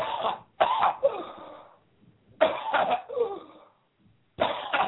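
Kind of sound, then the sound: human body sound, deep cough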